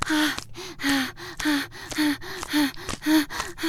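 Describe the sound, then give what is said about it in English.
Heavy, rapid gasping breaths, about eight in a steady rhythm, each a loud airy rush with a slight voiced catch, alternating in quick succession with no talking. “Your breathing's getting all silly.”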